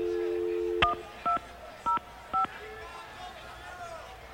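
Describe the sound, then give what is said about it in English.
A steady dial tone cuts off, then four touch-tone telephone keypad beeps follow at an even, unhurried pace, each one short and clear over a faint background hiss. “how am I supposed to dial?”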